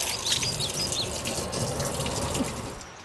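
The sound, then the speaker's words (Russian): Water pours and splashes in a steady, continuous gush from a new well set below a hill at a modern monastery, with a few faint bird chirps high in the background and no voices. “И в память о том Макарьевском колодце в современном монастыре, также под горой, устроили новый колодец, где вода не менее вкусная и целебная.”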